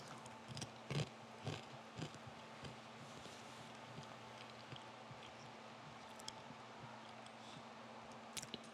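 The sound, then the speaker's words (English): Faint, crisp crunching of people chewing communion crackers together during a communion service, a few scattered bites clustered early and one near the end, over a steady low electrical hum, otherwise quiet. “So we take the cracker together.”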